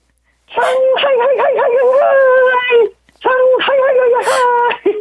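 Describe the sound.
A person imitates a Shanghai rooster crow with their voice over a phone connection, in two long, warbling, high-pitched calls, the first wavering for over two seconds, the second rising and holding after a short pause.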